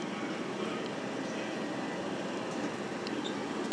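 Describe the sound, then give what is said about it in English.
A train at a station platform gives off a steady, loud rumble and hiss that stays constant throughout, with no voices over it. “Here we go, here's the train.”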